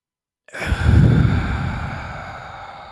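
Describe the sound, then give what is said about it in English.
A single slow, deep breath, drawn in through the nose and let out through the mouth in a breathing demonstration, a breathy rush that swells quickly and then fades gradually over a few seconds, with no talking. “So in through the nose again, in for two, hold for two or four, exhale, and one more time.”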